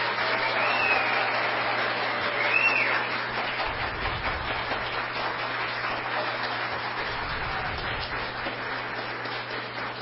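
A crowd applauds steadily as vice mayor Fábio Moraes Apolônio is invited forward at a ceremony, many hands clapping in a dense, even patter that stays fairly loud throughout, easing slightly after the first few seconds, with a low hum underneath.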